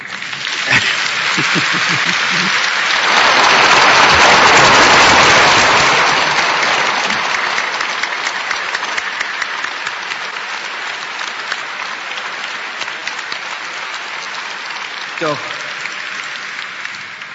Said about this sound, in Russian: Ну, аплодисменты!